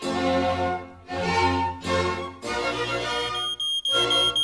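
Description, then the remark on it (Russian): An autonomous smoke detector alarm signals a fire in loud, harsh electronic beeps, four long pulses separated by brief gaps, insistent, with no talking. “Как вы думаете, Шерлок, кто это пищит? Никто, а что? Это АПИ. Это же элементарно, Ватсон.”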